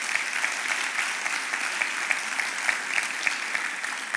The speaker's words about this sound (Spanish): Si crees eso, dale un aplauso a Dios.